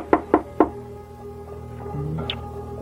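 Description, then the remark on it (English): Three firm knocks on the wooden door of a ramshackle house at night, in quick, slightly uneven succession and resonant, followed by quiet ambience with faint shuffling. “Now, I'll knock.”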